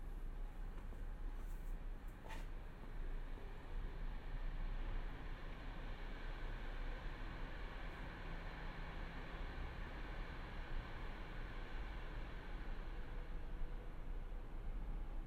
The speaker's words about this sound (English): Some train noises and such. It's quite tame out here today.